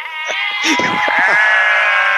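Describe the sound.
A person imitates a sheep with a loud, wavering bleat that stretches on for a couple of seconds, with a brief voice sound at the start.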